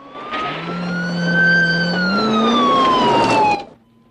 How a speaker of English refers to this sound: A patrol car motors down a mountain road.